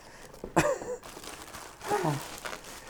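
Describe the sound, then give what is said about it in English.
A delivered package's cardboard box and paper being cut apart and opened, with scraping, crinkling rustles in two bursts, each joined by a strained vocal sigh or grunt of effort. “Here I am, fighting with a fucking cardboard box.”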